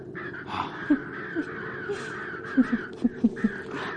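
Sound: crows cawing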